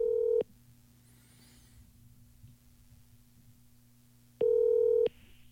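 A phone line rings out with two loud, steady electronic tones about four seconds apart, a low hum filling the gap between them as the call goes through.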